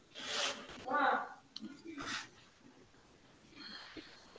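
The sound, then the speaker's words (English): Rustling and crinkling of a piece of paper being picked up and handled for writing meeting minutes, in several short scratchy bursts with brief pauses between them. “So let me grab a piece of paper so I can write down who approves and stuff, and then that way I can just add it.”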